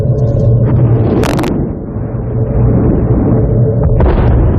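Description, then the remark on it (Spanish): A loud, dense battle soundscape from a Steven Spielberg war film: constant low rumbling with sharp bursts of gunfire from real weapons firing live ammunition and explosions, one striking crack early on and another near the end, with no voices. The sound was mixed very loud. “Colocó taladros en la cámara para que se sacudiera durante las explosiones.”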